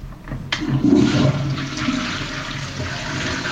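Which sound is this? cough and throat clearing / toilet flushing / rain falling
toilet flushing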